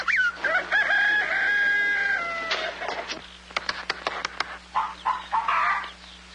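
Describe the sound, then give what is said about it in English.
A rooster crows a long, drawn-out call, followed by a quick burst of sharp clucks and more squawking from hens in a busy henhouse, with no talking. “I'm going to tap every one of those hens till I find the one that lays the golden egg.”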